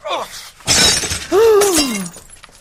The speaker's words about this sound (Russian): Ты что наделал? Ты что, зачем ты рассыпал фрукты? И торт упал! И чашку разбила! Что вы натворили?